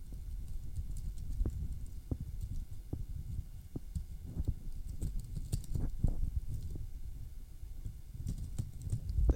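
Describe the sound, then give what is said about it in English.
Paper being unfolded, a series of soft crackles and sharp little snaps spread irregularly over several seconds, with no voices. “Now we unfold it.”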